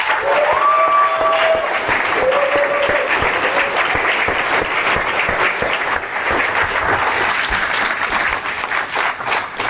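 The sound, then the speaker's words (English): A large audience claps loudly and steadily for several seconds, a dense, continuous wash of applause for the ClickFunnels family, with a few brief whistles or cheers rising above it early on. “I want to give the whole ClickFunnels family a big round of applause.”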